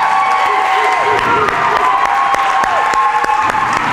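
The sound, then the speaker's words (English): A large audience breaks into loud, sustained applause, dense clapping with cheers and whoops rising through it, steady for the whole stretch. “I want you guys to give a roaring applause for Kay and for Michael for crossing that river of change”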